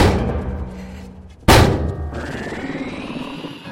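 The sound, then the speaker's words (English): A single heavy, booming thud as a large door slams shut and is sealed, cutting off the low rumbling background, followed by a lingering hollow resonance and a faint rising whine. “Seal the door!”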